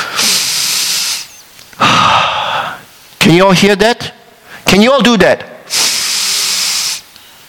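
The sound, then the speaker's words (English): Three loud, slow, deliberate breaths, each about a second long, alternating in and out, with a man speaking briefly between them. “You are breathing.”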